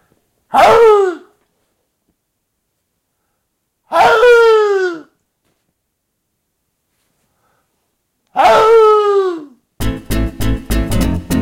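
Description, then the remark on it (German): Three loud, hoarse fox barks, each a harsh, rasping cry about a second long that falls in pitch, separated by several seconds of silence, followed by a brief burst of rhythmic pulsing sound. “In diesem Sinne verabschiede ich mich heute mit dem heiseren Bellen des Fuchses.”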